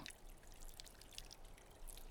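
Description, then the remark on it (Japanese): Soft, wet squishing of soap foam being spread, with faint crackling bubbles and a steady quiet hiss, continuous for a couple of seconds. “泡を伸ばして”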